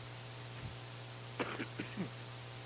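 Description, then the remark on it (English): A muffled sneeze breaks out as a quick run of short, breathy bursts over a steady low electrical hum, with no talking. “You know, they say bless you because the heart stops when it sneezes.”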